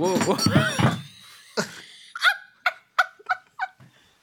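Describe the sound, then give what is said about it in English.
A heavy wooden thud and clatter as a solid wooden object is knocked over, followed by a run of short, rising vocal yelps and exclamations. “I knocked you over. I'm really sorry.”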